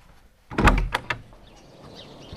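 A front door is opened for someone at the door, with a solid clunk and a couple of sharp rattling knocks from the latch, followed by a quieter, airy rustle.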